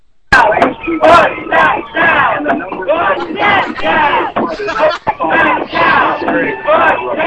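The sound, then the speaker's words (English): A crowd of many voices yells and chants together at a building, loud and sustained for several seconds, with overlapping shouts rising and falling in rough bursts, sounding excited and celebratory. “They're yelling this at the building as the...”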